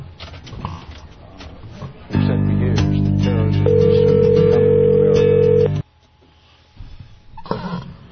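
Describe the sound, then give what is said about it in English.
A loud, steady telephone dial tone hums for several seconds as a caller fumbles with the phone trying to get through to someone, with faint handling and fumbling noises before it starts and after it cuts off abruptly. “I'm seeming to have a little trouble here as I continue to fumble with the phone, but I'm going to fumble on here and hopefully get through to him.”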